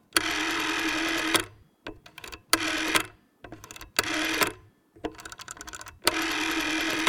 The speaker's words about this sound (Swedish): Ingen har hört hur en nummerskiva på en telefon låter som är 15 år idag.